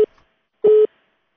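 A steady electronic telephone tone beeps twice: a brief clipped pulse, a pause, then a longer, louder beep with a flat pitch, after a listener's call drops during a Radio Azadi call-in program. No one speaks.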